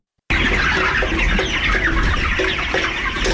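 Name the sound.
chickens clucking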